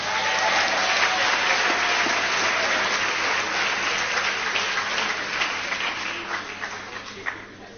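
An audience breaks into sustained applause after the announcement that sanitary pads will be zero rated: a dense wash of many hands clapping that holds steady for several seconds and then thins out toward the end, with a faint murmur of voices underneath.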